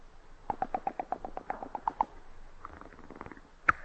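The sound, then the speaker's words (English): A voice imitates rolling dice using only the mouth, with a quick run of about a dozen mouth clicks that slow and soften, then a pause and one sharp final click, with no talking. “Next is the rolling of the dice.”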